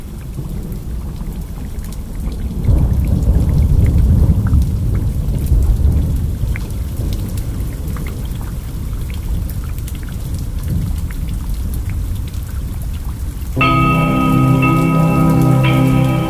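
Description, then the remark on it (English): Steady, heavy tropical rain pours down, with a deep rumble of thunder rolling through early on; near the end a sustained tonal, horn-like note rises over the downpour. “welcome to a soggy, rainy, tropical edition here of In You All Along here on 91.5 FM WMFO Medford Tufts Freeform Radio.”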